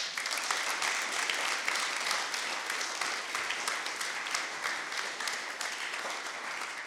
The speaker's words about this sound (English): And now this girl just went on her first missions trip to Vietnam this past summer, and she's on the track to be a full-time missionary someday to Vietnam overseas. And that's worth clapping about.